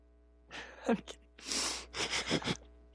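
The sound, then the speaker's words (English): Breathy wheezes and a long gasping exhale after a person laughs give way to a quick run of three or four short coughs, with faint background hum and no talking. “See, I laughed and then I had to cough.”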